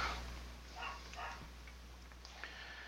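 A few faint dog barks come in short bursts over a low steady background hum, with no one speaking.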